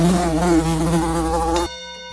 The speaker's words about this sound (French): La bonne réponse est mouche.